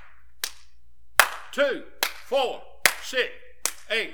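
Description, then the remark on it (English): About five sharp, loud hand claps at a steady, unhurried pace, each followed by a short spoken syllable from a man's voice counting along: 2, 4, 6, 8, 10, 12. “Just as fast as I clap my hands, folks are going out in eternity.”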